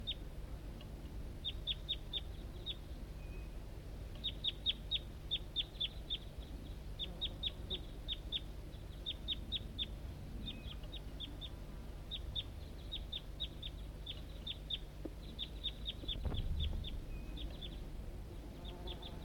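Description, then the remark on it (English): A wild bird up in an oak tree, calling back to a decoy, gives rapid clusters of high, thin chirps, pausing between bursts and starting again, over a low, steady background hum with no talking. “And the wild bird is still around up in an oak tree right nearby here.”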